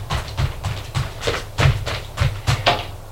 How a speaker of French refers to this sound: des pas qui courent.